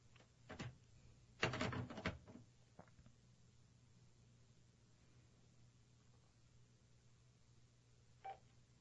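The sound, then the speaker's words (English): A steady, quiet telephone dial tone on line one hums throughout, broken early by a few clicks and a short cluster of keypad-like presses, with one last click near the end. No one speaks. “Now here's my dial tone.”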